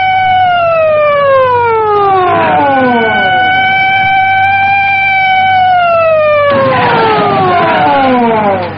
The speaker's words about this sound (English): The controller was as good as his word. In seconds, the runway was swarming with police cars that converged on Thunderbird 1.